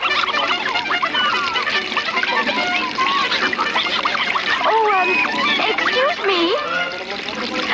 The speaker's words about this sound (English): She peeks over a big log and sees a flock of birds bathing under a waterfall. The birds have black umbrellas instead of wings.